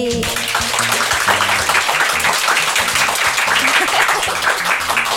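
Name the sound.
enthusiastic applause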